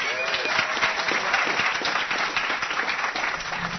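An audience aboard a boat breaks into steady, dense applause, many hands clapping at once in a continuous wash of sound that holds at an even, fairly loud level throughout.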